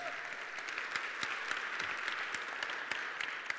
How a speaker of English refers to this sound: And as always, we want to let the young people in the juvenile detention facility here in Kent County know we're praying for them. Just by way of applause, let them know.